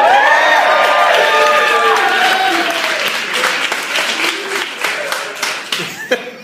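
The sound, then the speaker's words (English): A loud audience at the 8 o'clock show at Wise Guys in Utah, during the Leonard Maltin game, applauds and cheers, with high, wavering shrieks rising over the roar at first, then the noise thins into scattered, uneven clapping. “It really sounded like someone was slowly murdered to me during that applause.”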